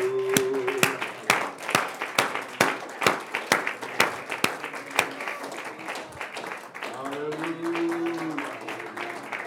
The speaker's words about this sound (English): Praise God. Let's clap my hands unto the Lord now.